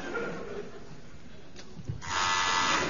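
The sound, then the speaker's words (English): After a quiet moment, a loud, harsh quiz buzzer pressed by a contestant in a team quiz cuts in abruptly and keeps droning steadily to the end, prominent, with no talking over it. “So, fingers on buzzers. That was Barry.”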